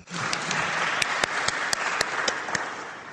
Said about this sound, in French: Donc il faut vraiment l'applaudir pour ça.